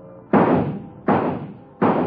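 shooting gallery rifle shot

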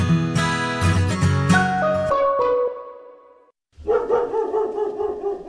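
dog barking

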